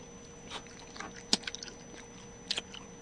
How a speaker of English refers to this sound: I am chewing Haribo gummy bears. I am chewing a Quaker's Chewy cookies and cream flavor. Nice. So we are both chewing.